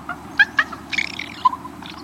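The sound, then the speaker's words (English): A raven's soft comfort sound: a few short, gentle throaty calls, then a longer warbling murmur, fairly quiet over a low background hum. “Raven nestlings sometimes make this same sound after they've been fed.”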